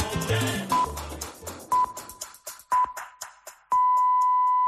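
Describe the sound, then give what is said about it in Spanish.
A COPE radio time signal marking one o'clock (twelve in the Canary Islands): three short, steady high beeps about a second apart, then a longer final tone, sounding over the tail end of fading music. “Es la una a las 12 en Canarias.”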